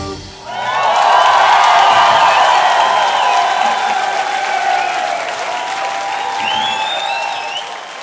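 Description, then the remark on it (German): An audience at a live concert tour breaks into loud, sustained applause, a dense wash of clapping with a few whistles and cheers rising over it, lasting several seconds without easing much. “Applaus.”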